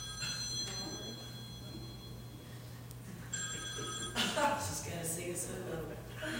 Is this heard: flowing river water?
no